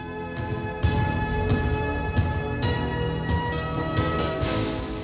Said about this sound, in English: Radio Netherlands, the station with big bells.